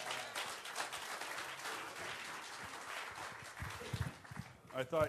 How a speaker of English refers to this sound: A little round of applause for that.